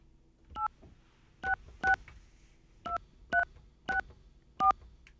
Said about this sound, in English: It's going to involve me dialing something on the air and turning down your microphones because otherwise there'll be all kinds of confusion. And we don't like confusion on the air. Do we have a dial tone? Okay. I'm going to dial this number.